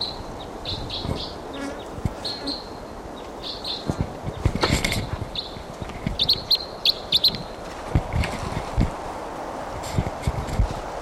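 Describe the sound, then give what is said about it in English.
A bird chirps in short, bright bursts that repeat irregularly over a steady outdoor hum, with a few sharper clicks and rustles mixed in. No one speaks. “Bird, different bird.”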